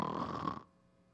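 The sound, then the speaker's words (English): A voice imitates a single snore, a short raspy, throaty rattle lasting about half a second before cutting off into quiet. It's fairly loud, with no talking. “The disciples are snoring.”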